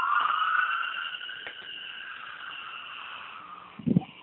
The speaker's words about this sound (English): Okay, hopefully the sirens will run their course. Good old downtown Oakland.